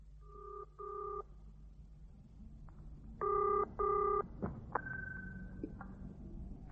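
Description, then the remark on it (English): A telephone ringing tone heard down the line during an outgoing call from a phone box, two double-pulse rings separated by a pause, followed by a couple of sharp clicks as the call connects, over a low steady hum. “And when I leave here, I'm going to the nearest phone box to do just that.”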